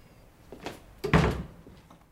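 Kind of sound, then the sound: household object, door being shut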